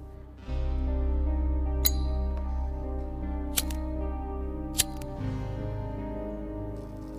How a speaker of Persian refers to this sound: حامد به سیگار لابلای لباش فندک میزنه.